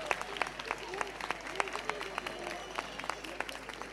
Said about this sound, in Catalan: Jo crec que es mereixen un fort aplaudiment perquè així els engresquem una miqueta.